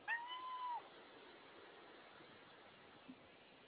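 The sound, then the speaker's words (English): A single short cat meow sounds right at the start, clear, then fades into a steady low hiss of background noise with no further calls. “No, kitty cat.”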